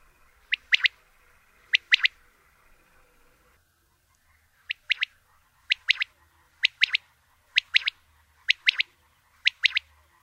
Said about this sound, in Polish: Frazy te mogą występować pojedynczo, gdy ptak jest spokojny, lub też być powtarzane w seriach do ponad 10 razy, kiedy ptak jest czymś podniecony bądź zaniepokojony.